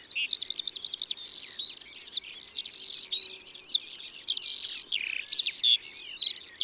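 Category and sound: bird, skylark singing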